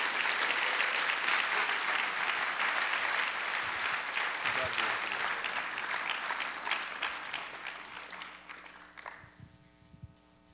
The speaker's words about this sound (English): Let's give them a rousing applause.